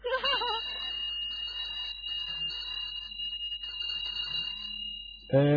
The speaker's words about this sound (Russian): Где мне такой удар колокол достать, чтобы это все отыграть? Паш, в рынду! Сейчас Паша в рынду позвонит.